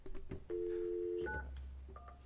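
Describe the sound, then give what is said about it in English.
Telephone dialing tones as a call is placed to a person from Washington during a committee hearing: a few quick beeps, then a long steady tone, followed by short higher two-tone keypad beeps over a low background hum. “we need to call our person from Washington?”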